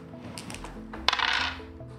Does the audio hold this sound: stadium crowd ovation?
no